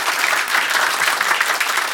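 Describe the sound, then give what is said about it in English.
An audience claps steadily, a dense, even wash of many hands with no breaks, fairly loud throughout and with no voices standing out. “Thank you for clapping.”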